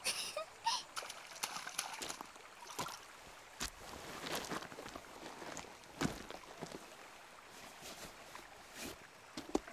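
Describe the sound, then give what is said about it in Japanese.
Feet dangling and splashing in a cold flowing river: water splashes and sloshes in bursts over a steady rush of flowing river water, with a few sharper splats scattered throughout; no one speaks. “お兄ちゃんも座って川に足つけよう。冷たいし、川の流れがくすぐったくて気持ちいいよ。”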